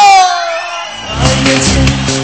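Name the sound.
audience screaming and cheering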